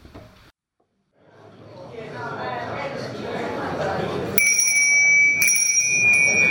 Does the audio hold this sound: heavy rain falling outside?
no